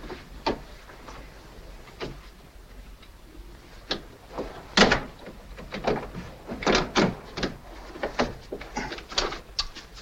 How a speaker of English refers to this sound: Got caught in the door.